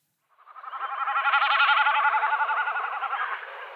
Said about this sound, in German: Beachtet, das macht er nicht mit seiner Stimme. Er fliegt hoch, spreizt seine äußeren Schwanzfedern ab, macht seinen diagonalen Sturzflug und lässt dabei die Schwanzfedern zittern. Und das macht dieses Geräusch.